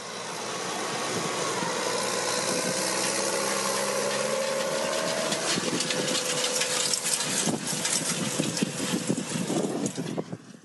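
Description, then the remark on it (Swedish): A Case IH Puma tractor engine drones steadily, then grows rougher and more mechanical as it drives past, with rattling and clanking toward the end and no voices. “Och där på slutet hörde vi förutom … från JTI också en Case IH Puma som körde förbi.”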